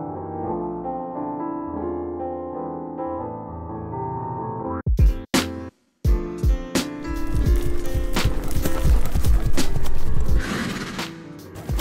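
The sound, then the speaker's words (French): The hooves of an Iberian horse moving freely clop in an irregular run of thuds and scuffs on soft ground, following a few seconds of sustained tonal music, with no voices. “Observer l'animal évoluer en liberté permet dans un premier temps d'évaluer ses capacités naturelles.”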